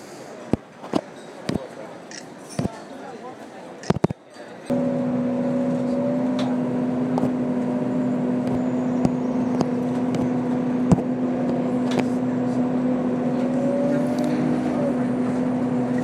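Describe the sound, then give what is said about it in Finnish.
Inside a moving bus heading to a ship in Stockholm, Sweden: a few sharp clicks and knocks, then a steady low engine drone with a humming tone that holds for the rest of the ride, with faint murmuring voices. “Tässä nyt vielä kuljetaan bussilla kohti laivaa, ja siihenhän tämä onkin hyvä päättää tämä Tukholman suuri seikkailu,”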